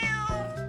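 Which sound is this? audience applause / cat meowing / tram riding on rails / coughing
cat meowing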